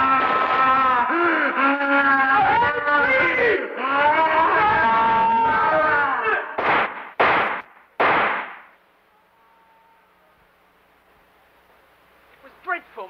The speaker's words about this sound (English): There was a terrible scream, and then I heard nothing more.